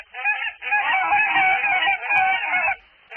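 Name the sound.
geese honking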